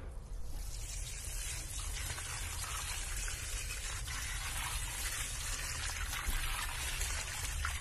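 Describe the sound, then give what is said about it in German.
Steady splashing and trickling of water poured from a watering can onto a potted gerbera on a balcony, continuous, with no talking over it. “Die werde ich jetzt hier mal richtig unter Wasser setzen.”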